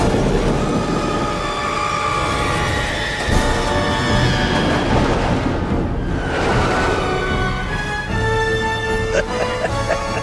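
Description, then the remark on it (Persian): A roller coaster rattles steadily along its track, a loud, continuous clattering rumble close by, with shrill metallic squeals rising toward the end and faint voices mixed in. “ترن هوایی؟ آخه چرا باید ترن هوایی باشه؟”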